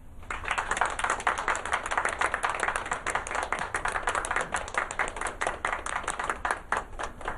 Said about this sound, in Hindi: दोनों के लिए तालियां।